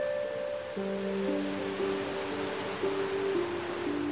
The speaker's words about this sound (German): Du lässt das Rauschen des Meeres in deine Ohren strömen und spürst, wie es alle störenden Gedanken aus deinem Kopf vertreibt und sich eine angenehme Ruhe in dir ausbreitet.